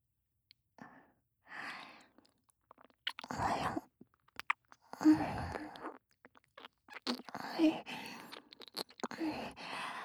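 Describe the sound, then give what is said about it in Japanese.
Wet licking and mouth sounds on an earlobe, coming in irregular smacking bursts with short pauses between them, soft but intimate, with no talking. “先輩の耳たぶって大きくて舐めやすいですね。”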